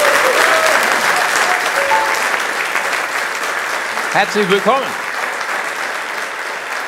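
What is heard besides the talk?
audience applause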